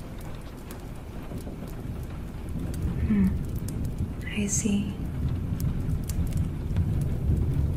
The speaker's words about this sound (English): You can watch the rain outside.